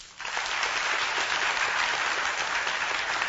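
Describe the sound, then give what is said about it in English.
The audience members with even-numbered birth dates clap as loud as they can, a dense wash of many hands striking at once that starts abruptly and holds steady at full intensity, with no voices heard. “So first thing, I'd like to hear the evens clap as loud as you can.”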